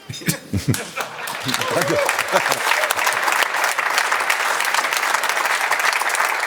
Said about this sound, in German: Ich lasse den Applaus erstmal vorbeigehen.